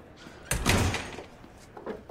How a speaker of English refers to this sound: Ervil paces in the cell. The door opens.